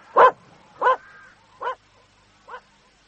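A puppy barks four times in short, sharp yaps spaced about a second apart, each one a little quieter than the last, with no voices.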